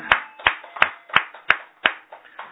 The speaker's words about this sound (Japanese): 今日は父の日ということでね、全国のまた世界中のお父さんにありがとうの拍手をお願いします。